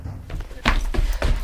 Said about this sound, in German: Peter hatte die Zimmernummer 113 erreicht und verriegelte hinter sich die Tür.